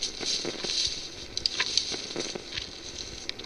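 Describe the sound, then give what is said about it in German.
A steady airy hiss of wind blowing through the treetops of a forest in the evening runs throughout, broken by irregular sharp cracks and snaps as branches break under the footsteps of three people walking through the woods. No one speaks. “Der Wind pfeift durch die Baumkronen und die Äste knacken unter den Schritten der drei.”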